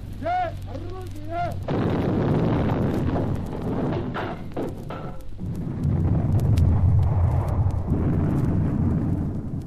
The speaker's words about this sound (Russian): 12 января 1943 года войска Ленинградского и Волховского фронтов перешли в наступление. Начался прорыв блокады Ленинграда. Заговорили, закрохотали орудия всех калибров.